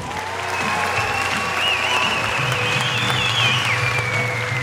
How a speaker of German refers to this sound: Und habe ohne Scheiß nichts aufgenommen. Bis auf den Applaus, glaube ich, nach dem Film.